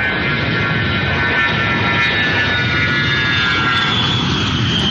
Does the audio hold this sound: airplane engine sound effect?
yes